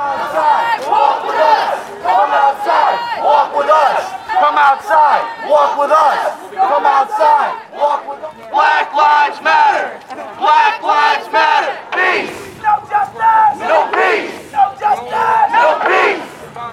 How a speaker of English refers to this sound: By and large, as the march passed through different neighborhoods, people came out on their stoops and porches or hung out their windows and offered cheers or thumbs up. The streets reverberated with chants.